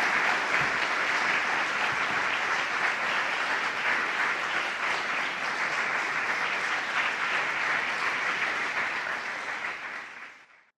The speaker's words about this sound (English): So I'd like for all of you to assist me in welcoming Norman Solomon, writer, activist, and truth teller. Let's give him a hand of applause.